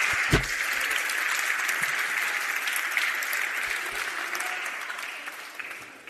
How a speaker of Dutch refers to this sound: Dames en heren, nog één keer een heel groot applaus